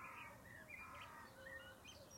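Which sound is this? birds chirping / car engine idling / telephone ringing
birds chirping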